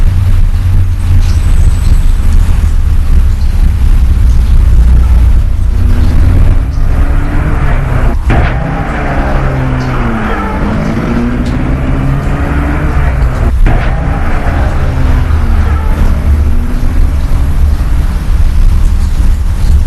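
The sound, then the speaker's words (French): A car engine runs with a steady low rumble, rising and falling in pitch as it revs and pulls away, with sharp thuds like doors closing partway through, as the driver gets out, lets someone into the car, and then starts it. “Le chauffeur sort de voiture et le fait entrer dans la voiture, puis la met en route.”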